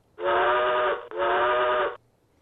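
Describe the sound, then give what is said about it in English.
Two long, loud blasts of a train whistle from a railroad safety commercial, back to back with only a brief break between them, full-sounding with no voices. “And the message is, get the hell off the railroad tracks. There's a train coming.”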